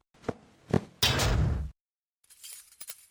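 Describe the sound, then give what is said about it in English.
Two sharp knocks are followed by a loud, rushing door closing. After a pause comes a series of metallic clicks and rattles as a hefty chain is wrapped around the door handles and locked. Fairly loud, with no voices. “I will have to wrap the door handles again and lock them after you.”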